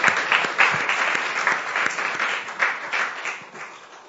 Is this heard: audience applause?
yes